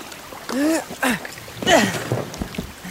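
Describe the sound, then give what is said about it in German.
A boat hull scrapes and swishes over the shore in a few short bursts, with effortful vocal grunts mixed in as the boat is hauled up under a willow beside another boat, as it starts to rain. “Wir ziehen unser Boot neben ihrs.”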